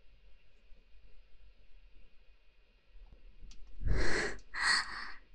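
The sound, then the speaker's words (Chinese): Two heavy, breathy huffs arrive close together near the end, loud, after several seconds of near silence with faint low rumble. “上下上下，听你自己的呼吸声有多急促，别忘了上的时候学狗叫。”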